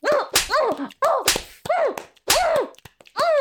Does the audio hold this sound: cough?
no